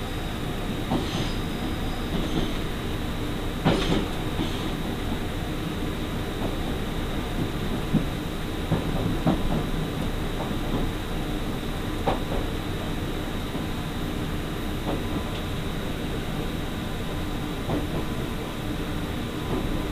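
The limited express train Nichirin No. 3, bound for Miyazaki Airport via Oita, rolls steadily along the rails with a continuous low rumble, broken by occasional sharp clicks and clacks from the wheels over track joints, and no one speaking.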